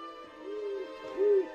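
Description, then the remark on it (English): Two soft, low owl hoots, the second slightly louder, rise and fall over a steady humming background as an owl emerges from a hollow tree in dark woods and flies off, with no one speaking. “An owl emerges from a hollow tree and flies off.”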